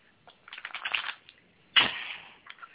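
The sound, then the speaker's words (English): A deck of tarot cards being shuffled three times for a quick-draw reading: a quick flurry of papery flicks, then a sharp riffling burst that trails off, with a few soft taps after. No one speaks. “But let me go to these cards and stop playing. I'm shuffling 3 times.”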